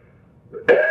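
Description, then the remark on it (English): After a near-silent moment, a single sharp cough bursts out, loud and abrupt. No one is talking. “I haven't coughed in 2 weeks.”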